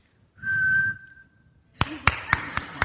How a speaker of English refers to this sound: I wasn't necessarily going to use this, but I want to hear your whistling demonstration. All right, here we go. Let's give us a whistle. Yeah, just whistle.